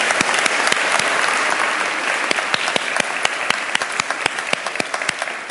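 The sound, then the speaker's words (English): A church audience claps steadily in a dense, sustained round of applause at an evening service, many hands overlapping into a bright wash with sharper individual claps popping out, holding level for several seconds without voices. “Round of applause.”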